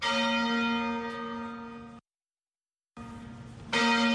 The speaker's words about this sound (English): The bells of St. George's Cathedral rang out for 10 minutes on Monday.